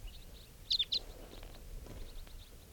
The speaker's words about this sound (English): The birds are flying around. They may be coming back here.